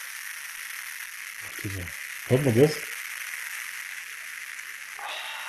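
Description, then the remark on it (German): A steady, soft high hiss of fizzing beer runs throughout, with a faint crackle texture. A voice briefly speaks over it midway. “Ja, meins knistert oder ein bisschen.”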